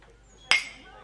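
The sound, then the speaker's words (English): A single bright, crisp clink of glasses touching in a toast, one holding a creamy white Russian coffee, with a short ringing tone that fades within half a second against a quiet background. “Cheers.”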